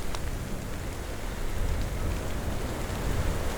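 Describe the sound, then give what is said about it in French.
Steady rain falls at the end of a thunderstorm at night, by a lake and forest at 1200 metres altitude, in a dense, even hiss with scattered drops pattering on surfaces; the downpour holds constant throughout, no voices, just the continuous wash of the shower. “Est-ce bien la fin de l'orage?”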